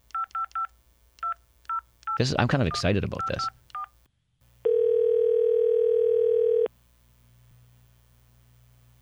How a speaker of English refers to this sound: Let's call the phone number that … himself tweeted last night.